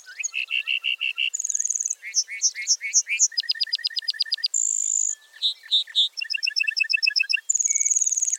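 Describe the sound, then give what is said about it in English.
A lark bunting sings a long, varied song as it flies back down to the ground: rapid repeated trills, clear sustained whistles and buzzy phrases, switching patterns every second or so with no other sounds. “Flying back to earth, the bunting belts out a complex series of trills, whistles, and buzzy phrases.”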